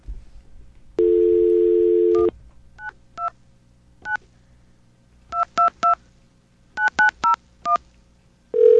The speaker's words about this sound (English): Here's a test. We're going to get a dial tone here. And call this test number to prove that the 929 area code exists.